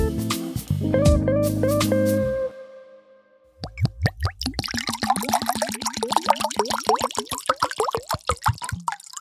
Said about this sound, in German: So, das Wasser ist eingeschenkt und damit kann die Folge auch gleich losgehen, denn ohne Wasser geht es nicht.